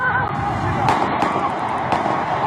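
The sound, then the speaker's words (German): Two or three sharp gunshots crack out about a second apart over a dense wash of street noise and agitated, panicked voices, the shots loud, in front of the Parliament building in London during a terror attack. “Mehrere Schüsse fallen.”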